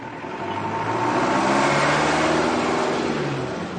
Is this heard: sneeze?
no